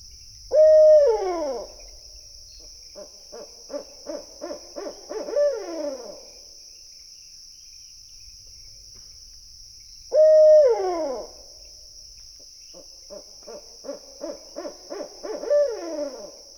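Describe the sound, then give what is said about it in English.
A barred owl gives two rhythmic hoot series, each opening with a loud sliding call followed by a string of quicker, clipped hoots, with a steady insect buzz running underneath throughout. “Other barred owl sounds include a simple hoo-all and an ascending hoot series.”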